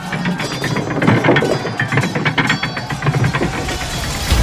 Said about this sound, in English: The people in the city needed to raise the drawbridge for their defense.